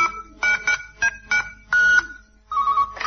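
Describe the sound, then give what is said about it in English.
A telephone redials a number shown on its readout display: a quick run of electronic keypad beeps, several short tones in an uneven sequence, followed by a steady warbling phone ring. The sounds are clear, with no talking. “The number you called is still on the readout display.”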